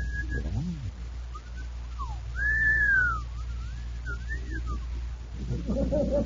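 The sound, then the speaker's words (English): Several men give admiring wolf whistles at a woman, long rising and falling tones overlapping one another, with a low background rumble and some murmuring at the end. “What's the matter, boys? Your whistle's stuck?”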